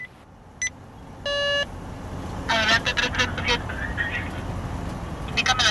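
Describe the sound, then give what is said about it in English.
A police pickup truck rolls along Acapulco's beach road with steady engine and road rumble, a brief horn-like beep early on, and indistinct voices chattering over the noise. “We're in a police pickup truck traveling along Acapulco's beach road.”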